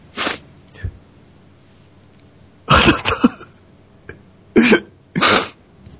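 A wife sobbing in short, breathy, choked bursts: a couple of quick sniffs, a longer shaky wail, then two more sharp sobs, separated by quiet pauses, with no talking.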